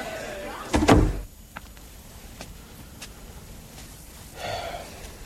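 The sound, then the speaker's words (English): A door opens and shuts with a loud thump near the start as someone slips out into the night, followed by a few soft clicks and a brief creaking squeak toward the end, otherwise quiet. “Ah, door's open. Slip out into the night”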